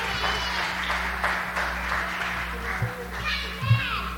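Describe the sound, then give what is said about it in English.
An audience applauds in a steady, dense patter of clapping, with high-pitched children's voices and squeals rising over it and a low hum underneath. “Yes, clap and get them up.”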